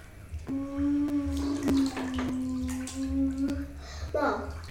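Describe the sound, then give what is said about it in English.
Water sloshes and splashes in a bathtub, spilling over the top, with sharp splashy bursts throughout while a child pretending to be a speedboat holds a steady motor-like hum over it. “Pull the plug a wee bit, let out some water out of the bath. Because the water came splashing over the top.”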